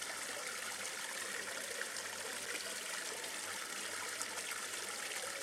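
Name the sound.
water splashing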